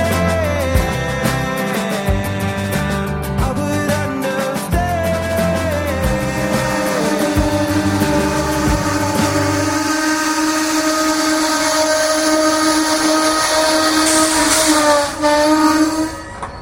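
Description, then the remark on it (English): A train rolls into a station with a loud, rhythmic low rumble and clatter of wheels, giving way to sustained high-pitched squealing of brakes as it slows and stops. “Well, train's here.”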